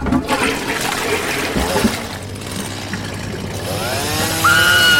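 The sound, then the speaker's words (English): A toilet flushes with a loud, continuous rush and gurgle of swirling water lasting several seconds, joined toward the end by a wavering, high-pitched whistle. No one speaks. “I am simply flushing the waste down the toilet.”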